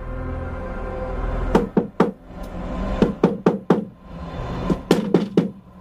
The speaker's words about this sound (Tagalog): Sunod-sunod ang malalakas na katok sa kanyang pinto.